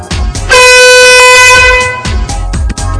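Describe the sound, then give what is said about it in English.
A single loud, buzzy electronic beep lasting about a second and a half, rich and horn-like, sounding over a steady thumping background beat: the first beat that starts a 20-metre shuttle-run beep test. “When you start with your foot on or behind the starting point, and start the test with the first beat, which sounds like this.”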